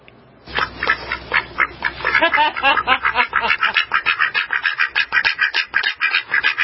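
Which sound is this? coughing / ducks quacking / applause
ducks quacking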